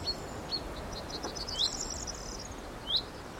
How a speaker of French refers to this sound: Là, on entend un pinson qui est en train de faire un cri d'alarme parce qu'il a probablement un nid pas trop loin.